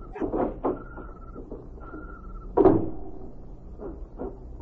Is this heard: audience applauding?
no